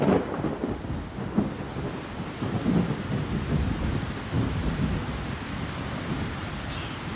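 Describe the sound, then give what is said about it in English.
A thunderstorm with steady rain hissing down and deep rolling thunder rumbling continuously underneath, fairly loud, with no voices present. “So if we think of the thunderstorms and the stormwater drainage infrastructure that Hanele spoke of, it often gets blocked or can't cope with all the water.”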